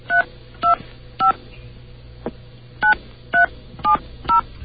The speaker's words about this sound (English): please forgive the dial tone you're about to hear. Okay. As I dial this number.